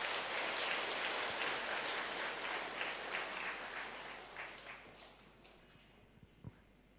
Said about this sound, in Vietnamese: Nếu quý vị thấy lời đề nghị đó là tốt đẹp và mình nỗ lực có thể làm được, hãy dâng cao một tràng vỗ tay thật lớn.